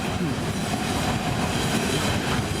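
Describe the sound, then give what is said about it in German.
A long train rolls past on the rails, a loud, steady rumble with faint wheel clatter that fills the whole stretch without easing off. No one speaks. “Langer Zug.”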